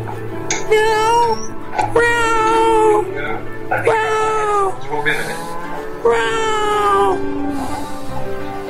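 A male cat meows insistently, about four long, drawn-out, wavering cries in a row with short gaps between them, loud and fairly high-pitched, with no other sounds around it.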